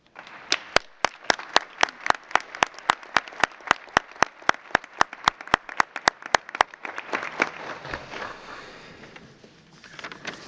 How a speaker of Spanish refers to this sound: Si ese fuese el consenso, pediría que en forma solemne aprobáramos esta declaración. Si así fuera, así lo declaro y pido un aplauso.